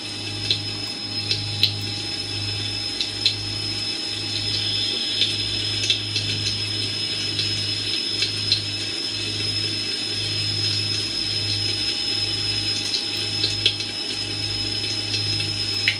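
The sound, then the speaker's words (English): Water draining down a drain, a steady hollow rushing drone with a rhythmic low throb and scattered faint clicks, continuous, with no voices. “That sound effect is actually the sound of water coming from a drain.”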